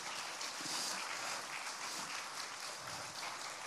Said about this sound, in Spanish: ¡Wow! Dale un aplauso de gratitud al Señor.